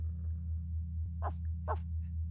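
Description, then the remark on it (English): A voice imitates a dog, giving two short, rising whines in quick succession over a steady low rumbling drone that persists throughout. No speech. “You don't have to talk. You can just make doggy noises instead.”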